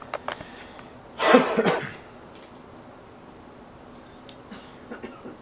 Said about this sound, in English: I do apologize for my coughing and clearing of my throat. I'm coming off of almost a week with a real nasty case of a sore throat and hoarseness of voice.